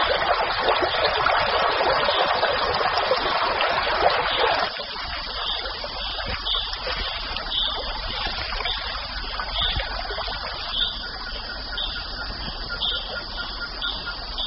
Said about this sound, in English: The floods gradually drain back into the established waterways that run through the forest like blood vessels. There is so much water flowing through the forest that even little rivulets can carve out the soil around an ancient boulder.